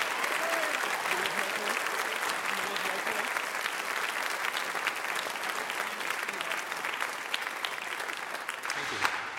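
An audience claps and shouts unto the Lord, clapping steadily and densely for about nine seconds, the applause holding an even, loud level throughout, with a few scattered voices and shouts blended into the noise.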